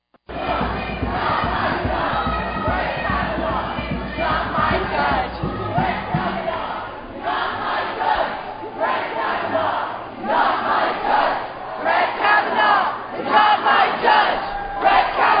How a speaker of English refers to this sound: You can hear this, but you have to see it. You go online, you could just search protesters banging on the Supreme Court doors. This took place Saturday as Brett Kavanaugh had his official swearing-in ceremony.